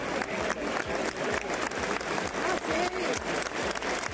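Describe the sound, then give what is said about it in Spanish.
A large crowd in the packed Maestranza bullring in Seville claps steadily in dense, continuous applause for former King Juan Carlos I, with scattered cheers and shouts rising through it and voices mingling in the noise. “Juan Carlos I ha sido recibido en Sevilla con aplausos y entre vítores.”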